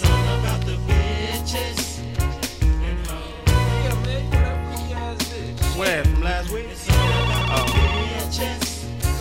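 A phone rings with a loud musical ringtone, a busy beat-driven melody playing continuously for several seconds, with no one talking over it.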